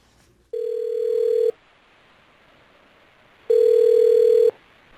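A mobile phone ringback tone sounds twice as a wife places a call herself, each a steady electronic tone lasting about a second with a two-second gap of quiet between, clear with no voices.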